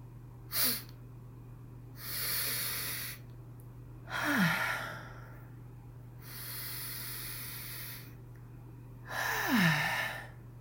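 Three deep sniffs drawn in through the nose from a lit scented candle, each separated by a slower breathy exhale, with a faint low hum and no talking.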